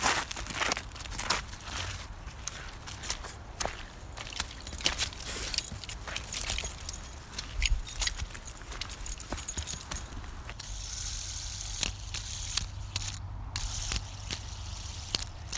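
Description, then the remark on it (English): A fidget spinner being handled and set spinning on a walk in the woods, with rapid metallic clicks and rattling that settle into a steady, faint whir toward the end. No one speaks. “The famous fidget spinner.”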